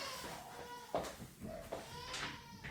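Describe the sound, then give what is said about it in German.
A baby who has just come home with its mother wails loudly from another room, muffled cries coming in repeated rising bursts with short catches of breath between them. “ist gerade nach Hause gekommen mit Mama und schreit ganz laut”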